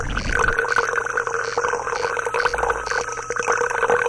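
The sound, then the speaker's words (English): Club soda is poured steadily from a bottle into a glass as a refill for several seconds, a continuous hissing fizz of carbon dioxide dotted with tiny crackling pops over a hollow, ringing tone from the filling glass. No one speaks. “Here comes the club soda refill.”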